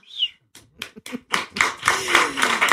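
A few scattered claps quickly swell into a dense, sustained round of audience applause, preceded by a brief high-pitched squeak at the very start.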